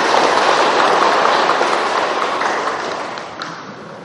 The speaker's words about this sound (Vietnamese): Xin chân thành tán thán cái công hạnh của toàn thể quý Phật tử nơi đây bằng một tràng pháo tay thật lớn.